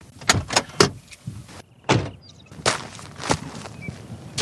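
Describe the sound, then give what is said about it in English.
A series of sharp clunks and thuds, like a car door being opened and shut, with brief scraping and rustling between them and no voices, as a car's engine is turned off after pulling off the Princes Highway at the Yurrabadalla Botanic Gardens in Australia. “Pulling off the Princes Highway and turning off the car's engine, you enter a little natural haven.”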